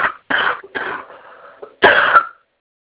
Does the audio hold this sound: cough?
yes